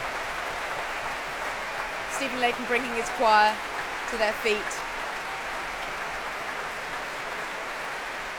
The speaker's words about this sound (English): Oh, that cheer is for Polyphony.